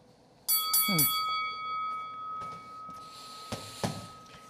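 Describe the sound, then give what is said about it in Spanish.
A boxing ring bell clangs several times in quick succession, loud, its bright metallic tone ringing on and slowly fading over a few seconds amid background noise. “Así que, si suena la campana, vamos a empezar este round.”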